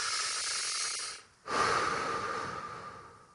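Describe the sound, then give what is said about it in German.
Slow, deep, conscious belly breathing: a long airy inhale, a brief pause, then a full, steady exhale, with no talking. “Tief, bewusst in deinen Bauch zu atmen.”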